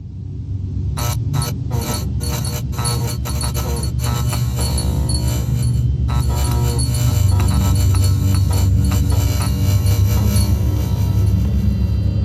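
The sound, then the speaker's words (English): A light bulb in a corral sputters on as a cowboy shows up, with a series of sharp electrical clicks and flickers, then settles into a steady, loud buzzing hum with a low drone underneath. “I mentioned this in the email, but I really love the sound of that light bulb coming on in the corral when the cowboy shows up.”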